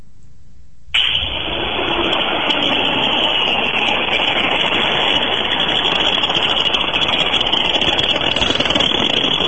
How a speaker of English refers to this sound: All right, whatever it is, it needs new bearings. I'm going to go with one of those 4-inch grinders.